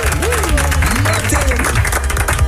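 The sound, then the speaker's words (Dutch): A steady patter of scattered, unenthusiastic applause runs the whole time, with some voices or tones drifting over the clapping. “Een beetje matig applaus, maar oké.”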